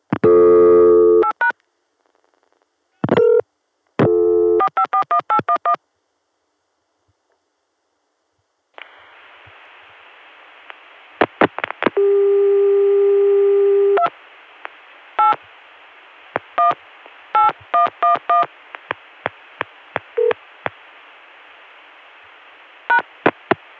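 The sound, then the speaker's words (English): A steady Chicago telephone dial tone is interrupted by rapid bursts of touch-tone dialing beeps calling Richmond, followed by a hissy line with clicks and another sustained tone, all clear with no talking. “This time I got a Chicago dial tone and tried calling Richmond, and...”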